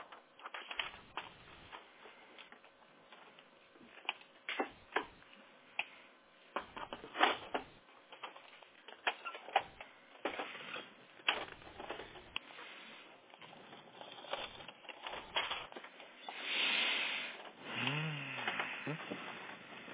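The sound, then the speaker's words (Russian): Mechanical clattering and paper rustling from a printer as jammed paper is worked loose, in irregular bursts and scrapes, with a steadier grinding rush near the end. “Бумага застряла в принтере.”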